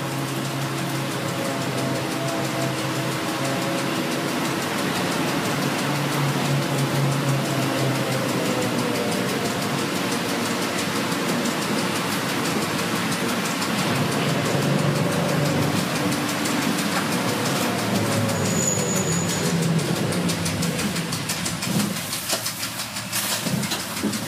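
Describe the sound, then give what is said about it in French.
A steady, low engine drone fills a quiet bus interior in Switzerland, with a faint hum and soft rattles throughout and no one talking. “Les autres choses qui étaient vraiment différentes côté bruit, le silence dans les bus, oui.”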